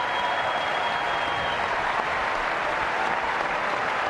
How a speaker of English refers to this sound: It's like he's doing a commencement address or something. All these applause lines.